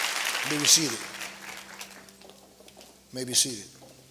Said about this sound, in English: Well, let's clap and give God a hand.